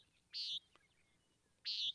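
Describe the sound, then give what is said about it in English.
Two short, nasal buzzy calls from a nighthawk, evenly spaced about a second and a half apart, loud and clear against a quiet background with no talking. “So if you're seeing funky dinosaur-like birds flying in the sky, these are nighthawks. And this is what they sound like.”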